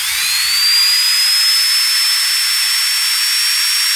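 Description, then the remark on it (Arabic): A dentist's drill whines at a high, steady pitch, rising briefly as it spins up and then holding for several seconds over a loud airy hiss. No one speaks. “نعم، هذا الصوت الذي يبث الرعب في قلوب أعتى الرجال”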